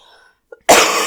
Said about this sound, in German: Aber ja, mein Gott, mein Husten, ich muss mich entschuldigen.